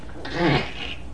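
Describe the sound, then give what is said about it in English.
A cat retches once, a short, strained gagging heave with a brief throaty, voiced edge over a hissy rasp, moderately loud, with no talking. “Who was sick? The kitty. Poor kitty.”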